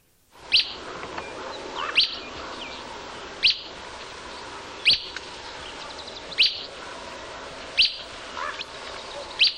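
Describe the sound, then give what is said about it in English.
A bird in southern Utah repeats short, mellow, liquid whit calls at a steady pace, about one every one and a half seconds, clear over a soft background hiss, with no voices. “These mellow liquid whits were recorded in southern Utah.”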